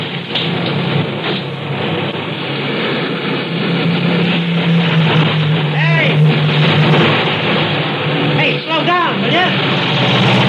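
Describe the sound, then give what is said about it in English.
A loud, steady roar of traffic on a four-lane highway fills the scene, with vehicles rushing past too fast to stop in continuous waves and brief voices surfacing under the noise. “Everybody's going too fast to stop.”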